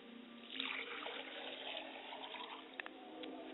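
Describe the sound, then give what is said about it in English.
Liquid is poured out as a libation in a steady, splashing stream that starts abruptly and runs for a few seconds, fairly loud, with a couple of brief drips near the end. “I pour libation to the west, and I say, libation.”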